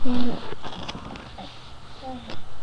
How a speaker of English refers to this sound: It means that an owl says, Mira. Okay. And then what happened? And then the owl is here. In the tape recorder? Mm-hmm. Yeah.